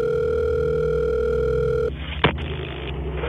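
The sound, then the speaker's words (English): A loud, steady telephone dial tone hums for almost two seconds as a call is placed to the police on the 911 emergency line, then cuts off abruptly into a soft line hiss broken by a single sharp click. “So I told her that if she waited right there, I would call the police, which I closed the door and I did.”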